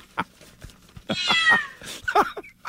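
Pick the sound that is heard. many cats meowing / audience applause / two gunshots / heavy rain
many cats meowing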